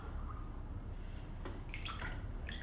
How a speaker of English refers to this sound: And now, back in my hotel room, I've managed to create my own flotation tank. That is to say, a salty bath with the lights out, which I'm in right now. It's like being in the Dead Sea, but I'm not surrounded by those annoying people.